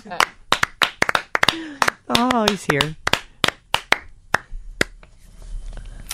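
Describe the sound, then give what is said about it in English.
Sparse, half-hearted applause: a scattering of sharp, irregular hand claps that thins out toward the end, with a brief spoken exclamation breaking in partway through. “Pretty weak applause.”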